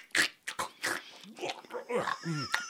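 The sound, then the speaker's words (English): A voice imitates exaggerated chewing of raspberries through cheesecloth, mashing them down to squeeze through, with wet, crunchy mouth smacks in irregular bursts, mixed with voiced grunting sounds. “Just chewing on the side of it like, like a fucking. Trying to mash it all down so it'll squeeze through the thing.”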